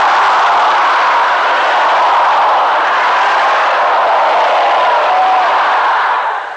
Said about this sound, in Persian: این طرف قطع درستش کنی، یه صلوات دیگه هم بلندتر بفرست.